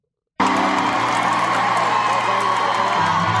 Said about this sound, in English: All right, I've heard enough of the cheering.